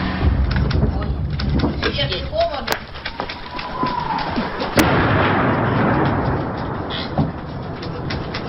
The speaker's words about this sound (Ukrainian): Гром, вот это что, осколки летят. Ага. Даже в убежище слышно.